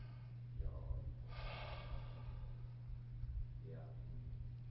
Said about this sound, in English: and yawn